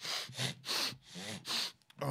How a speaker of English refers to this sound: Can't breathe. I don't know if you can tell. I can't breathe. Because I'm trying not to do the sniffles, because I can tell it might sound bad on the microphone if I do a sniffle. So I'm legit trying to not.